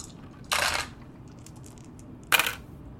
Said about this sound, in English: make a conflict resolution roll. Okay, we have three dice, right?